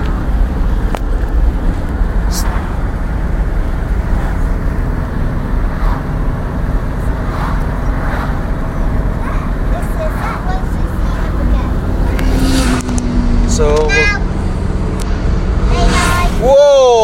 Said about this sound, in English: Motorbike's charging past us here. Going westbound on the A303. No, west.